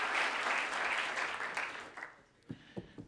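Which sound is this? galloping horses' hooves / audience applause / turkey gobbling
audience applause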